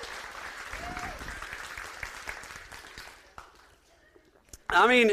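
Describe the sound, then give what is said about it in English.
A church audience claps steadily in a dense, even patter for about three seconds, then the applause thins and fades out before a loud voice begins speaking at the end. “Let's get a little bit more clapping in here.”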